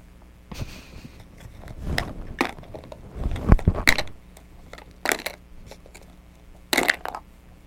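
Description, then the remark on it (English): Stacked toys crash down in a string of clattering bursts, scattered irregularly with brief quiet gaps between the tumbles, and a louder jumble of knocks partway through. “You like crashing them down?”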